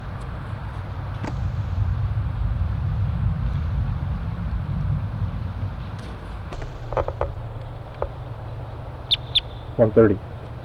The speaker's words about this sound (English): In response to wild birds coming around the parking lot area.